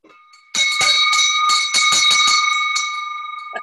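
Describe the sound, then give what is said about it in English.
A family-heirloom handbell rings loudly, struck rapidly several times so its bright, sustained tone keeps sounding and slowly fades toward the end. “Well, I talked about the bell.”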